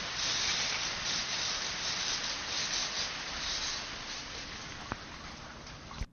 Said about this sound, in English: The next two soundtracks are all about water. And listener, what goes in must come out. This first track is the watering system inside the greenhouse.